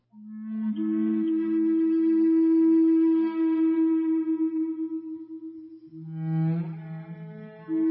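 Native American flute music: one long, low, breathy note held for several seconds with a gentle wavering vibrato, then a brief dip to a lower tone before rising again. No voices.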